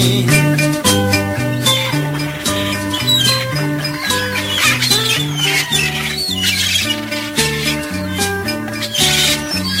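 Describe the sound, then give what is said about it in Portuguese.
A gull flying low at a beach lets out squawking cries that ring out repeatedly over a loud, steady musical accompaniment of sustained chords, the shrill calls weaving through the instruments for several seconds. “Porém só vejo a malvada gaivota voando baixinho, cantando assim.”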